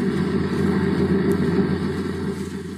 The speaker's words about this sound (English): One engine looks all right, but it doesn't sound so good. For the past few days, the engines haven't been working so well.